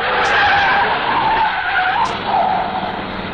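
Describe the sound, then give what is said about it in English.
A cut-down hot rod in 1956 tears past en route to a ball, with loud, squealing tires and a roaring engine, the skidding whine rising and falling over a few seconds, with no voices. “immeasurably enhancing the sleekness of that cut-down hot rod squirreling past us en route to a ball, 1956 teenage style.”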